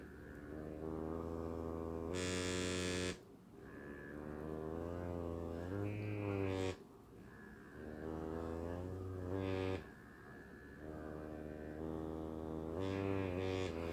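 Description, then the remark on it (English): A vibrating device's motor buzzes steadily. Its pitch rises and falls as it cycles through pulsing and revving-up functions, with a few brief harsher bursts. No one speaks. “Well, vibrating functions are definitely something that I'm into.”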